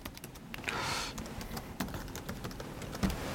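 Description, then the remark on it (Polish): Quick, irregular keystrokes on a computer keyboard as a username and password are entered to connect to Active Directory, fairly quiet, clicking in short bursts with a brief pause, no one speaking. “Podajemy username'a. To musi, na tym etapie musi to być Enterprise Administrator. No to podajemy.”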